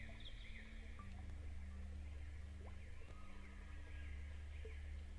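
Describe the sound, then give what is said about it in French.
Faint birds chirp and sing in scattered short calls at daybreak by a lake, over a steady low rumbling hum, with a calm, quiet outdoor feel and no voices. “Les oiseaux chantent.”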